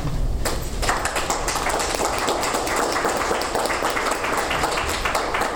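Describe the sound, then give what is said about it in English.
A steady round of applause from a group at a school board meeting, welcoming newly hired district staff; dense overlapping claps that start almost at once and hold at a fairly even level throughout, with no voices standing out. “And you get a nice little round of applause as well.”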